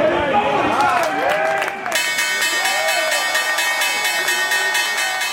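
The sustained, bright electric opening bell of the New York Stock Exchange, rung by Harlem Globetrotter Big Easy Lofton pressing a button, rings continuously from about two seconds in, over a loud, excited crowd on the trading floor cheering and chattering throughout.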